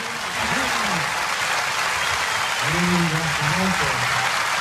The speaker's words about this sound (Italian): Andrea, non so se arriva forte Donizetti. Come qui l'applauso dell'Arena di Verona.